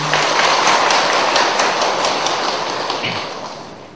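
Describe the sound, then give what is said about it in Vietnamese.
A crowd of Buddhist lay followers applauds steadily at a Buddhist talk, a dense wash of many hands clapping at an even loudness before gradually tapering off toward the end. “Như vậy thì xin tán thán quý vị Phật tử bằng một tràng pháo tay.”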